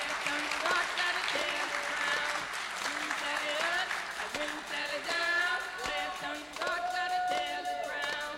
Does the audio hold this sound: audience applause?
yes